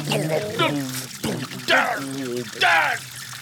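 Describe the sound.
Water pours and gurgles in several rushing bursts, each with a rising, bubbling tone, close and fairly loud, with a voice-like murmur mixed underneath.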